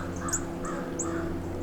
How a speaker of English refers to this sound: Group of six crows. Correction, group of seven crows. Group of eight crows flew into an area of the woodland which is obscured from me, proceeded to call repeatedly, and have now moved off to the southeast.